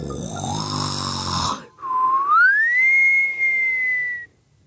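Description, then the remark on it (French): A deep, rasping snore from an old woman's lips in the Parc Monceau rumbles for about a second and a half, then breaks off into a clear, high whistle that glides upward and holds its pitch before cutting out. “Une sorte de ronflement très grave, suivi d'un sifflement très aigu, quelque chose comme...”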